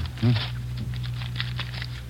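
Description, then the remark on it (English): Crinkly wrapper being peeled off a new deck of cards, a series of soft, quick rustles and crackles, with a brief low murmur near the start. “I haven't unwrapped him yet”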